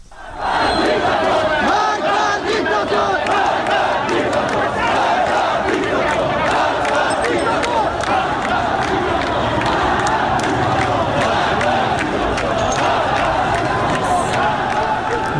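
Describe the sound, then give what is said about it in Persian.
A protest gathering in Ahvaz, protesters clashing with a police anti-riot vehicle: a loud, continuous roar of many voices shouting and yelling over each other, with agitated cries rising throughout and no pauses for the whole stretch. “در اهواز تجمعی رخ داده که معترضان با خودروی ضد شورش نیروی انتظامی درگیر شدن.”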